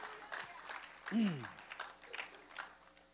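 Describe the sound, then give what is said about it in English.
An audience claps and applauds steadily throughout, giving the Lord a victory clap, a dense crowd of hands, with a single voice briefly calling out in a falling shout partway through. “Give the Lord a victory alguien clap.”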